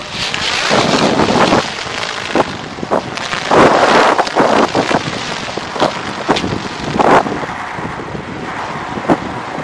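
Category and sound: nature, strong wind blowing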